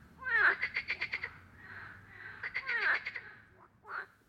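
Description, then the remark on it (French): A frog croaks in two rattling bursts of rapid pulses, then gives one short final croak, loud and clear over a faint low background hum, among the ponds and wetlands of the Paluo marsh. “Écoutez la grenouille qui croisse autour des mares et des zones humides et se déplace par bonds successifs.”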